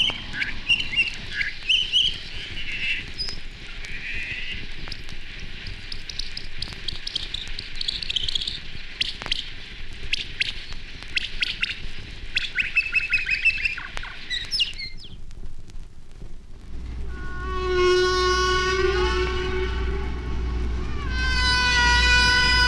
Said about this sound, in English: good way to hear the patterned structure of humpback songs is to speed them up to birdsong speeds. This song is sped up 14 times. It's the only speed change on this record.